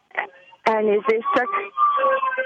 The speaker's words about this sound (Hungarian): Elnézést csak mellettem elment egy tűzoltó.